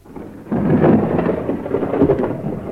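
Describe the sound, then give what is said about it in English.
A low, rolling rumble of thunder swells in after a brief quiet and sustains heavily, with a rainy wash beneath it; no one speaks. “I think it's going to rain very soon.”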